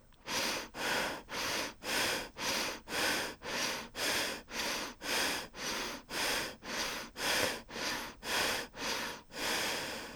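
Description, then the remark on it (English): Rapid, rhythmic genital breathing exercise: about sixteen forceful, evenly spaced breaths in ten seconds, loud, each a whooshing rush of air, with no talking. “And genital breathing again.”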